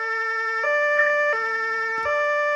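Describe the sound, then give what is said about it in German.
A two-tone Martinshorn emergency vehicle siren alternates steadily between a high and low pitch, switching roughly every second and a half, loud, with faint background noise and no talking. “Ein Martinshorn.”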